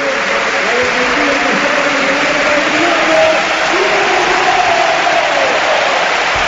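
A large stadium crowd at a Valencia–Girona football match applauds as Valencia substitute Vieto comes on for his debut, replacing Santi Mina, in a dense, steady wash of clapping and murmuring voices, holding at an even, fairly loud level throughout without any single standout cheer.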